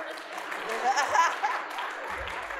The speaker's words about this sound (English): Thank you. You're supposed to clap until I get up here. That's what they told me. I can still keep clapping.